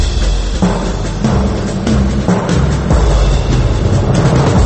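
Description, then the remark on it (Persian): A loud, continuous air raid warning siren sounding a red alert, harsh and noisy with a low droning tone and rough pulsing surges, heard alone without any voices. “توجه علامتی که همتون میشنوید اعلام خطر یا وضعیت قرمز است.”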